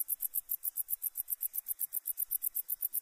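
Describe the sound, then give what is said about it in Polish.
A wart-biter bush cricket sings alone in a rapid, steady series of sharp, high-pitched ticks, about seven per second, like a clock mechanism clicking quickly. “Jego głośny, ostry i bardzo charakterystyczny śpiew przerównać można do szybkiego cykania mechanizmu zegara.”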